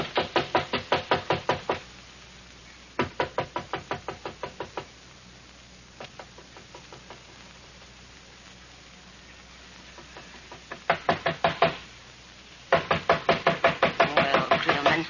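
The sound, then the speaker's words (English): Bursts of rapid knocking on a door, several quick raps each, coming in groups with pauses between; the final bursts are louder and more insistent. No voices. “Can't let them knock all night.”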